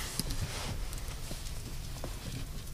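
A goat's hard hooves clop across a floor at a church service, brought in by a missionary from Nigeria; an irregular walking rhythm of sharp taps over a low background rumble, with no voices.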